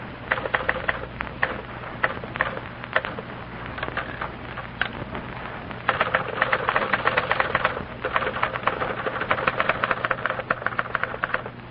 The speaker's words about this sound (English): And now for a little demonstration of one striking fact about our product. Listen to these two girls, each typing a letter.